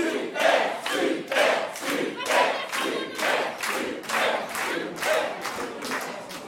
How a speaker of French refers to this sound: On vous applaudit chaleureusement. 500 euros pour nos candidats, nos deux collégiens.